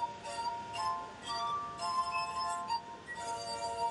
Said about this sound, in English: A glass harp is made up of different sized stemmed drinking glasses, each filled with water. Turner makes music by running his fingers over the tops of the glasses. By doing so, each glass makes a different musical sound.